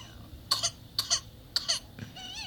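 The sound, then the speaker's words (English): A baby with whooping cough coughs in three sharp, high-pitched bursts about half a second apart, each a quick cluster of hacking coughs, followed by a strained, wheezy whimpering breath as the baby struggles to breathe. Fairly clear. “Aw, baby struggling to breathe.”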